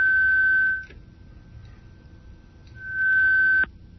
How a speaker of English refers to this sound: I'm hearing only beeping now.